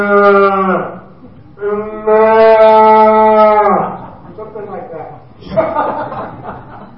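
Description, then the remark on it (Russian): A man imitates a bull's lowing with long, droning harmonic moos, two sustained calls followed by a rougher, shorter grunting bellow, fairly loud. “…, он может издавать в Австралии эти звуки быков.”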